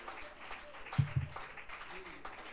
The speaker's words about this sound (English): And I think we need to give the Lord one more great big round of applause and appreciation.